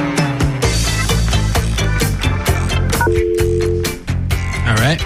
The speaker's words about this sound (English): Here we go. The robot is dialing the phone.